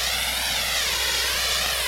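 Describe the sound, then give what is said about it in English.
A loud, steady wash of white noise at the start of an album track played on Radio Seagull, with a slow whooshing sweep running through it, rather like a passing jet. No voices are heard. “Lots of white noise at the start.”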